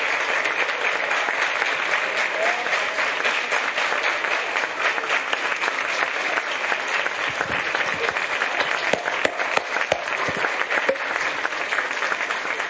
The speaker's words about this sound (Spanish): Les pido, por favor, si me acompañan, si pasan, y les damos un gran aplauso, por favor, a nuestros medallistas.